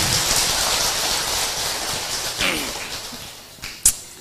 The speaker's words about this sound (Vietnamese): Cho một tràng vỗ tay quý vị.